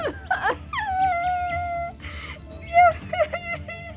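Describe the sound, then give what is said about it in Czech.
A high, quavering voice of an elf walking through a forest suddenly bursts into sobbing wails, drawn-out tearful cries rising and falling with short breaks between them, fairly loud. “Jeden ze skřítků z ničeho nic vyprskl v pláč.”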